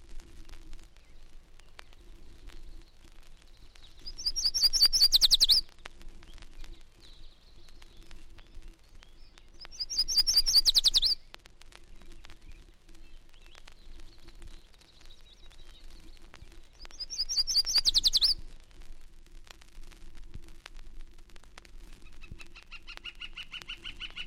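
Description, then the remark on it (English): A yellow warbler sings from the shrubbery of lawns and gardens: three bright, high-pitched phrases, each a quick rising run of notes, spaced several seconds apart against a faint steady background hum. “Widely distributed yellow warbler calls from the shrubbery of lawns and gardens.”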